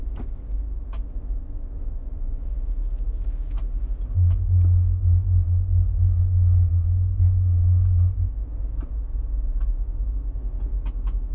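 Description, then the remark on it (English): A deep, steady bass tone from a car stereo, with the bass set two notches above the middle, booms for about four seconds over a continuous low car rumble, with the license plate rattling in scattered sharp clicks and rattles throughout; no one speaks. “I want to hear the license plate rattle.”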